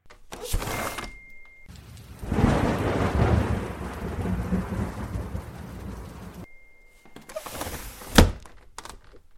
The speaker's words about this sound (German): Heute regnet es.